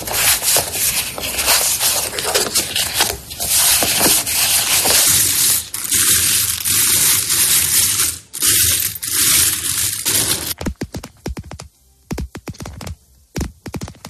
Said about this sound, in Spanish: Mira, el primer sonido era una persona barajando cartas, luego moviendo unas monedas y finalmente golpeando las uñas contra el tapete.